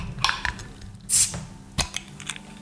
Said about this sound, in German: Ein bisschen habe ich ein Bierbier gekauft. Etikette dabei gewesen. Brauhaus Gusswerk. Ich hab da Achtung, es ist eine Flasche diesmal. Also Niveau. Achtung, Zisch.